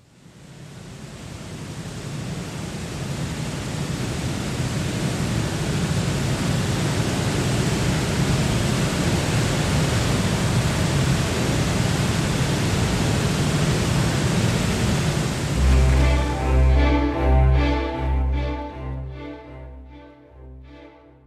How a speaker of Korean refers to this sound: 그 앞에 이과스 폭포 소리 좀 잠깐 듣고요.